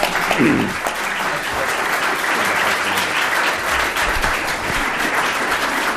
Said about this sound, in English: Let's give another hand of applause